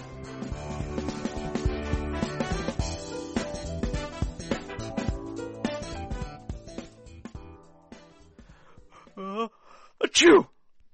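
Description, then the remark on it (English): A single sharp sneeze bursts out near the end, right after a stretch of steady background music fades down. “God bless you”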